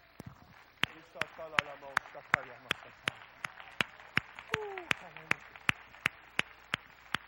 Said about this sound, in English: Would you stand to your feet and clap your hands to the Lord, and would you give him praise right now?